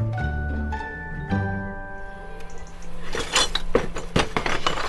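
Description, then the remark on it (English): Clay pot crocks clink and knock as they are put into pots in a greenhouse, starting with a few ringing, resonant taps and turning into a busier run of scraping clatters. Nobody speaks. “So what I'm doing is just putting some crocks into some pots.”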